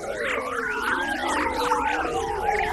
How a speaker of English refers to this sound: Here's the sound made when the sun's high-energy solar wind particles hit the foreshock or outside of Earth's magnetic field during a solar storm.